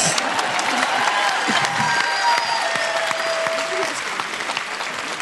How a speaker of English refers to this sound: Oh, keep applauding.